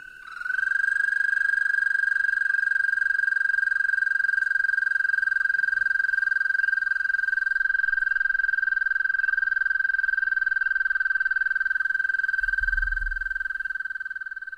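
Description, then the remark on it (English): A toad's long, unbroken trill holds one steady high pitch for nearly fifteen seconds, loud, with a faint low thump near the end. “The trilling of toads in chorus can carry a considerable distance, and individuals trill uninterruptedly for up to half a minute.”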